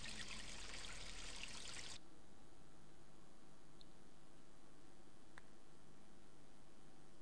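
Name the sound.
toilet flushing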